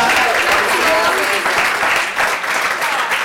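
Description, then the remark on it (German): Loud, sustained applause from an audience for two guests on stage, a dense wash of clapping that holds steady for a few seconds without letting up. “Ja, großer Applaus!”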